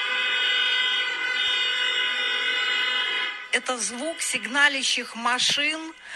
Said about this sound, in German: Das sind die Hupen der Autos vor dem Palast der Republik, ihr Protest gegen die Verfassungsversammlung von Alexander Lukaschenko.